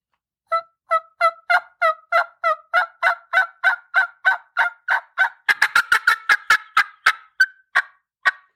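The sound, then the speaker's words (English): A turkey call mimics a hen: a steady run of about a dozen loud yelps, starting soft and intensifying, that quicken into a rapid, excited cackle before trailing off into a few last notes. No talking. “And then start to intensify, get a little bit more excited with that yelping, like what a hen does.”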